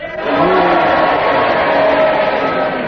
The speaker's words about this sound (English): I think the cheers have it. Except they said to say hooray instead of cheers.